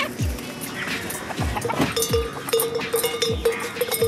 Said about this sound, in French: Il y a une petite cloche à l'ancienne sur ce portail.